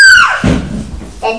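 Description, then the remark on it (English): A child lets out a loud, high-pitched scream that slides downward and breaks off after a moment, followed by muffled rustling and a brief second vocal cry. “What you doing screaming?”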